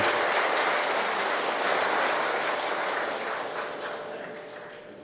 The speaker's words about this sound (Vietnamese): Hãy cho một tràng vỗ tay để tán dương tập thể 800 ca sĩ.